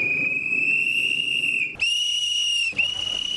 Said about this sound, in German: Das sind die Nachtadler, so Typen, die durch die Straßen Istanbuls rennen, bewaffnet mit Trillerpfeifen und...